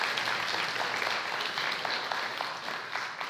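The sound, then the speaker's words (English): A church crowd applauds steadily for the people who did the masking work, a dense wash of many hands clapping at once, sustained and fairly loud throughout with no voices standing out. “So now can I get a beautiful round of applause?”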